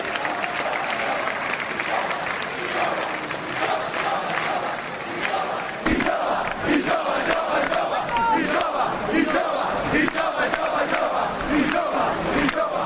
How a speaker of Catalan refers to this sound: la jove de Tarragona ha firmat la millor actuació d'aquest 2022. Que és, en primera ronda, 3 de 9 en folre, en segona, 4 de 9 en folre, és l'ordre invertit, no passa res, i en tercer, el 5 d'avui. I d'aquí aquests aplaudiments.